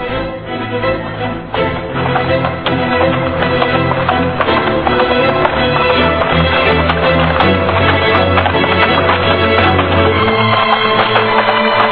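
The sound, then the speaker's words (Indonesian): Horse hooves clip-clop in a steady, continuous rhythm as a horse is led through the gate of Padurasa, fairly loud throughout, with no voices. “Sementara itu, Woro Kembang Sore sudah menuntun kudanya melintasi pintu gerbang Padurasa.”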